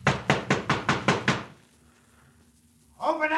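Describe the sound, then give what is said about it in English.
A fist pounds hard on a wooden door, six quick, evenly spaced heavy blows, then a brief hush before a man's voice starts speaking loudly. “Open up this door.”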